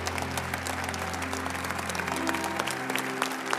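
A standing audience at Prestonwood applauds steadily with dense, continuous clapping and some cheering mixed in, celebrating the church's newest members, holding a loud, even level for several seconds over a low sustained hum.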